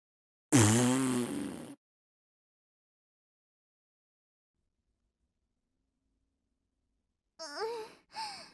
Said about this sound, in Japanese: すっごい音。こんな音のおならしちゃうなんて、忍者失格ね。最高に臭い一発が出ちゃったわ。